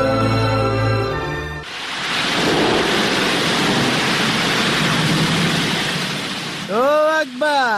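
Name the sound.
rushing floodwater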